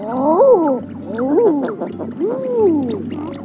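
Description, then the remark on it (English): An eider duck gives three rising-and-falling cooing calls, each a drawn-out 'ah-OOO' swoop with rich harmonics, sounding eerily like a human voice exclaiming in surprise, over a low steady hum. “And the weirdly human call of the eider duck.”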